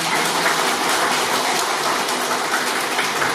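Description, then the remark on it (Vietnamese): A steady round of applause from many hands, a dense crackling wash of clapping that holds at an even, fairly loud level for a few seconds with no voices over it. “Mình cũng phải cho ông tràng pháo tay chứ.”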